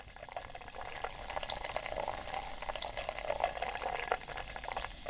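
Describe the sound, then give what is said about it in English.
Guinness pours steadily into a pint glass, a continuous splash and fizz with bubbly crackle running the whole time at moderate loudness, no voices. “All right, let's start pouring, buddy.”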